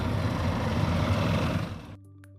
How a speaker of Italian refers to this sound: una dopo l'altra, le navette si mettono in moto in direzione di Livigno.